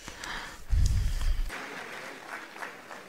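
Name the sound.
audience applause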